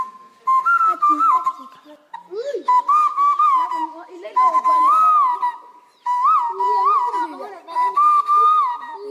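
Loud whistling blown through cupped palms without a whistle: a hollow, hooting tone that warbles and slides in pitch, repeated in several bursts with brief pauses between, and no one talking.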